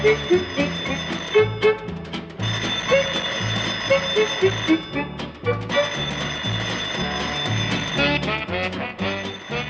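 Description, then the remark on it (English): A loud, continuous metallic ringing, like an alarm clock's bell, buzzing on for several seconds with a few brief breaks and no one speaking. “alarm clock is ringing. You didn't shut it off.”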